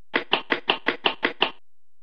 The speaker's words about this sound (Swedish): Du leker kull med din kompis Bip. Du ska försöka fånga Bip som försöker springa ifrån dig. Så här låter det när Bip springer.